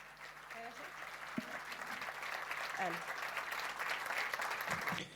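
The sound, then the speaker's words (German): A crowd applauds steadily for several seconds at the end of a talk at the 38C3 conference, a dense, even wash of clapping, with a few faint voices briefly rising beneath it. “Gibt eine Runde Applaus.”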